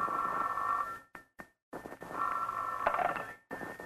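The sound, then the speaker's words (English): A telephone rings early in the morning in two bursts, a steady electronic warble broken by a short pause, clear with no voices. “It was a good thing I did, because the next morning, the phone rang early.”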